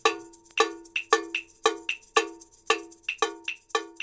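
A bongo bell struck in a steady, syncopated salsa rhythm, bright metallic clanks alternating between louder open hits and lighter, higher-pitched taps, each ringing briefly before the next. No voices.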